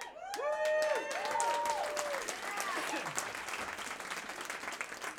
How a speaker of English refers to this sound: Don't worry, it's not the State of the Union. You don't have to clap on everything.